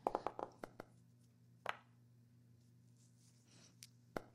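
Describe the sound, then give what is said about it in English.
Dice rolled for initiative in a tabletop game clatter across a hard tabletop in a quick burst of sharp taps that settle within a second, followed by a couple of isolated clicks over a faint steady room hum. “Oh, here, I can roll for initiative now.”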